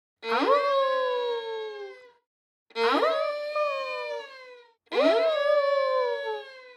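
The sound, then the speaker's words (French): Three drawn-out wolf howls imitated by a human voice, each rising then sliding down over about two seconds, separated by short pauses. Fairly loud, with no other sounds. “Loup pousse trois hurlements.”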